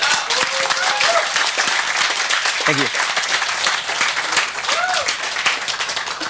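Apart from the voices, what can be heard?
audience applause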